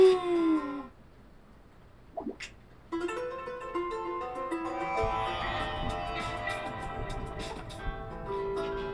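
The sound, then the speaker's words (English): A dog gives a rising howl, a quick high squeak, then a bark and another drawn-out howl, clear, with a steady tonal background running underneath from midway on. “Squeak! Awoo! Woof! Awoo!”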